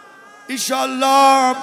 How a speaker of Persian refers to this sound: نه گریه نکن ایشالله